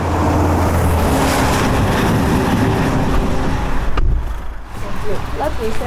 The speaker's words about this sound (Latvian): Tā izskatās kritiskākajās vietās uz Vidzemes šosejas, ko ikdiena mēro teju 20 tūkstoši auto. Par spīti bēdīgajam ceļa segumam, daudz mašīnu te traucas arī krietni virs atļautajiem 90 km stundā.